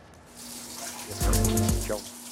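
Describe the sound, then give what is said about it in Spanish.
Mineral-laden water trickles and drips onto a cave floor in a short burst, a few splashy drops landing over a low background hum, with no voices. “Mientras caen lentamente en los pisos de la cueva, las gotas cargadas de mineral del agua que forman las estalagmitas crean un archivo del clima cambiante fuera de la cueva.”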